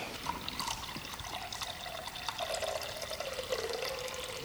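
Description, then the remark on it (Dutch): Water pours steadily in a continuous trickling stream, the pitch of the flow gradually shifting as the vessel fills. Moderately quiet, with no talking. “Dit is het water van de schepping.”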